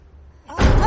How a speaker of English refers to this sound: The basement door slowly creaks open.